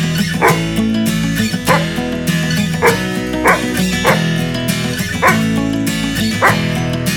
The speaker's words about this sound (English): It's a dog.